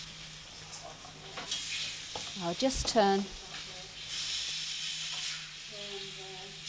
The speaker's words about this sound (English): Let's mix the onions there, all the garlic and onions. Fry them all up together there. Put the tomato in there. Now, the tomatoes I have grated. There we go. Fry those up there.